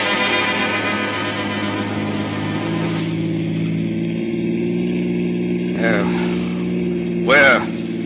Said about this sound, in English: We'll take Gus for a little ride. A ride? Yeah. But not in a police car this time. We'll use my jalopy.